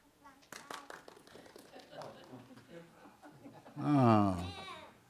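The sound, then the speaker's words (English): A crowd claps in scattered bursts, mixed with murmuring and laughter, then swells into a loud burst of cheering and shouting near the end, voting by applause for whoever they want to win in a demonstration. “And I want you to clap and shout for whoever you want to win in our little illustration.”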